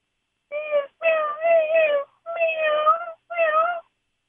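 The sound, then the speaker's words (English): A person imitates a cat, giving four whiny, drawn-out meows in close succession, the second and third longer and wavering. The voice is clear, with nothing else in the background. “I could do a whale, but I think I'm going to go with a cat.”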